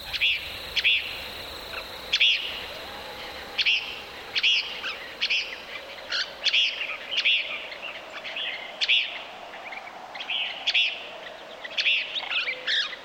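Desert birds sing outdoors at dawn on Gray Ranch, a nature conservancy easement in the New Mexico panhandle, recorded by Bernie Krause, in a steady series of short, bright chirping phrases repeating every second or so, clear over a soft, quiet background hiss, with no one talking.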